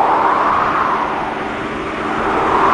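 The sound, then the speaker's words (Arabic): A tornado's loud, continuous roar, a dense rushing wind noise that stays steady for a few seconds and swells slightly at the start and end, as it moves through the southwest of a city heading northeast with large debris flying through the air. No one speaks. “ثمة حطام ضخم يتطاير في الهواء وتزداد قوة الإعصار.”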